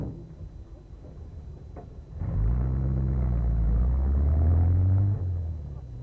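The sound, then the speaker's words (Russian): A car door slams, then a car engine suddenly roars up over a low background rumble, revving loud for a few seconds with rising pitch before easing off as the car pulls away from the Winter Palace with Kerensky inside. “Путаясь в юбке, он вскакивает в автомобиль, дверца захлопывается.”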